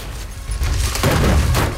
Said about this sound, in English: A huge explosion rips through the side of the house, sending a bike spinning into space.